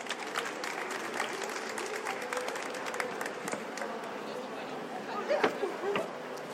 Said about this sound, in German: Dann schon mal einen kleinen Applaus für unsere Teilnehmer.